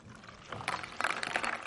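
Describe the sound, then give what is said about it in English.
Liquid is poured steadily into a container, a splashy stream that starts after a brief quiet moment and keeps going to the end. No one speaks over it. “And what you notice, what happens as we pour into our lives the belief that God has about us?”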